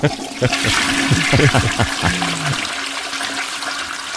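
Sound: toilet flushing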